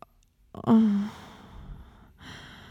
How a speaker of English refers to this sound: Do you really have to ask why I'm breathing hard? I can feel your heart pounding. I think you know exactly why I'm still breathing like this.